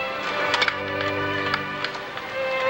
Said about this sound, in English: She unlocks the door.